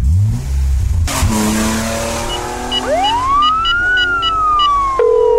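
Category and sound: vehicle, police car siren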